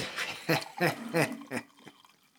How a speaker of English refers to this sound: I am just pouring some coffee, no ASMR, but